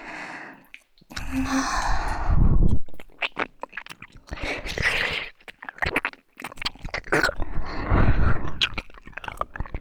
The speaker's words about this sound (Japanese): なんだかさっきよりも息遣いが荒くなってきましたね。